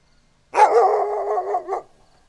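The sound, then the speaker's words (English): A single loud, drawn-out dog bark, almost howl-like and sustained for over a second, then it cuts off into quiet. No voices. “The dogs kept barking, but the man silenced them with a big shh.”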